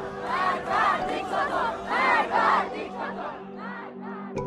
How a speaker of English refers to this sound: Others are speaking out against the government, specifically yelling death to the dictator, which is a reference to the supreme leader.